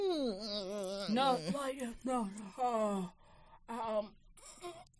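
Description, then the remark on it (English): A voice lets out an exaggerated, drawn-out fake yawn that slides in pitch like a groan, followed by a few shorter moaning vocal bursts with brief pauses between them. “That stretch or that dry ass yawn. People be fake yawning like you're lying.”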